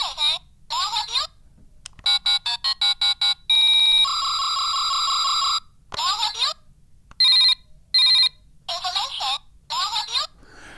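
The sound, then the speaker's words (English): A telephone gadget, triggered through an input, plays a string of electronic ringing tones that differ with each trigger: warbling chirps, rapid beeping bursts and a sustained buzzy ring. The tones are loud, with short pauses between patterns. “But the weird thing is, the phone, each time you trigger it, it plays something different.”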